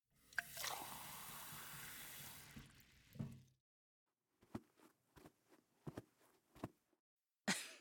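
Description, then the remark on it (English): A tap runs in a steady rushing stream for about three seconds as a glass of water is fetched, then shuts off, followed by a series of soft clinks and small knocks as the glass is handled and set down. “Let me get that glass of water for you.”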